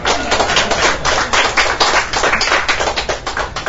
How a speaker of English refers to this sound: Wow. A round of applause.